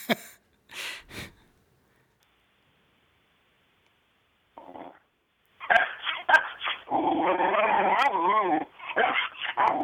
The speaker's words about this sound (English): That's Chester. That's Carrie's dog.